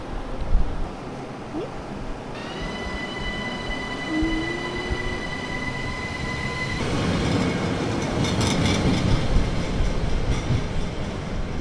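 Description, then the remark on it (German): A train rumbles along platform 3 of the station at Praterstern, its wheels giving off a sustained high-pitched squeal with steady tonal whine, then the noise swells louder and rougher as the carriages approach. “am Praterstern am Bahnhof auf Bahnsteig 3.”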